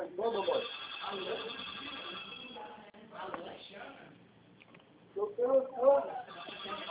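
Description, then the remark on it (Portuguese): A telephone rings with a sustained electronic tone that holds steady for several seconds, heard beneath people talking, then fades before more voices. “Tem um telefone aqui tocando.”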